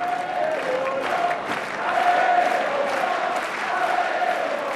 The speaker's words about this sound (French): Alors plus ça avançait, plus écoutez, vous avez le public crier Jean-Jean, Jean-Jean, ce public qu'on aime.